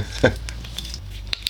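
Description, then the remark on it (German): A cork pops out of a bottle of regional Dewdrop mead, a vanilla and cherry variety, with a single soft, hollow plop, followed by faint clinks and rustling. “Ah, habt ihr dieses wunderbare Plöpp des Korkens gehört?”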